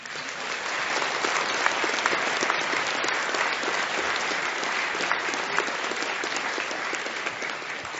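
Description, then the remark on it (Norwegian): Sustained applause from a large audience clapping in a hall, a dense, steady patter of many hands at an even, fairly loud level for the whole stretch, with no voices standing out. “Jeg har inntrykk av at det litt sånn taktisk klapping I salen her nå, men det greit.”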